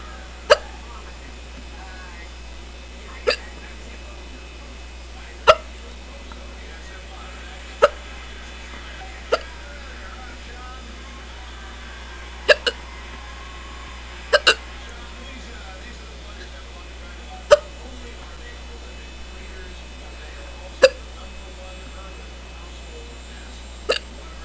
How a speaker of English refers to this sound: This has got to be the strongest case of hiccups I've had in a long time. It's really hurting my throat.